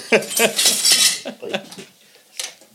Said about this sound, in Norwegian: Oi. Slutt å knuse flasker